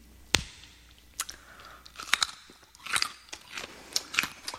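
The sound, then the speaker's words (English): Crisp crunching as a woman bites and chews a raw carrot, a sharp snap followed by a run of irregular wet crunches and munches, with no talking. “She was crunching and munching at the end there, if you didn't quite catch that.”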